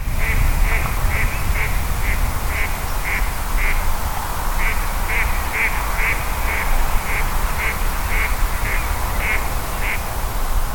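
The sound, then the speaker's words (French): Ducks on the ponds of Hollande (étangs de Hollande) quack in a steady, rapid series of short calls over a constant low rumble of wind or outdoor background noise. “Je ne sais pas si vous entendez les canards.”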